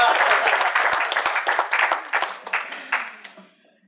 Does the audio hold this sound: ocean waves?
no